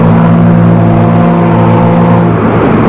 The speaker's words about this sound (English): The gangways were snatched away. The majestic boat moves out into the stream.